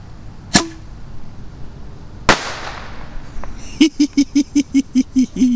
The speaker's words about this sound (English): Boom. These are good bottle rockets.